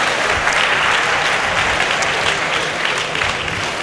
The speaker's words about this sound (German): Ein riesiger Applaus begleitet dich.